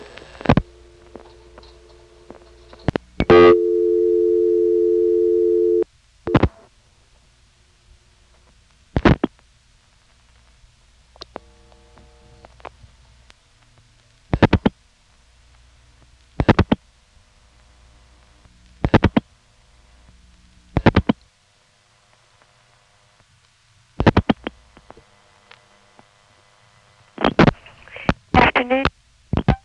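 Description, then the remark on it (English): A telephone line in Weirs Cave fails to reset after a switchhook flash while trying to reach a ringing number: loud, sharp clicks repeat at irregular intervals over a low hum, with a steady buzzing tone lasting a few seconds early on. “That's another recording that doesn't reset when you flash.”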